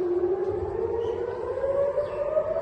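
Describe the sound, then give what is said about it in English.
An air raid siren in Israel, set off by a barrage of rockets fired from Gaza, wails steadily, its single drawn-out tone climbing slowly in pitch. It sounds fairly loud and continuous over a faint rumbling background, with no voices. “Palestinian militant group Hamas on Sunday fired a barrage of rockets from Gaza that set off air raid sirens as far as Tel Aviv for the first time in months.”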